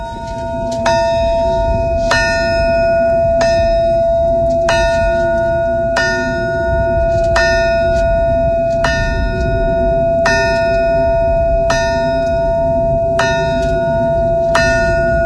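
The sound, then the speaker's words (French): A large memorial alarm bell, the Chernobyl tocsin at a monument, is struck again and again at a steady, unhurried pace, each clang ringing out and overlapping the next over a low, constant rumble. “C'est le toxin de Tchernobyl.”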